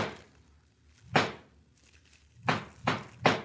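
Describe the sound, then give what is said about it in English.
The boss knocks on a door with his signal knock: a single heavy rap, a pause of over a second, then three quick, evenly spaced knocks, each a dull thud with a short tail. No voices are heard. “Yeah, that's his knock.”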